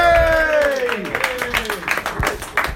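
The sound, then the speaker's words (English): An audience at a live show of Comedians with Books claps in a steady patter of applause for James Dowdeswell and Stephen Colgan, with a drawn-out vocal whoop gliding downward in pitch over the first second before the clapping carries on alone. “Give a round of applause for James Dowdeswell and Stephen Colgan.”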